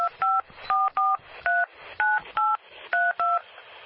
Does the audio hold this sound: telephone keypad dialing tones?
yes